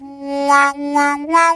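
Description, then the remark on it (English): A musician plays a steady, reedy harmonica note, hands cupped around the harmonica and hinged at the thumbs, flapping them so the tone opens and closes three times in a wah-wah-wah pattern, the pitch stepping up slightly on the last swell, played alone with no talking. “And you hear a wah, wah, wah, or the campfire thing.”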